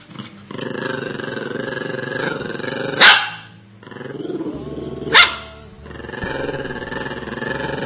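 A dog growls in long, rumbling stretches, broken by two sharp, loud barks a couple of seconds apart, with the snarling resuming after each bark.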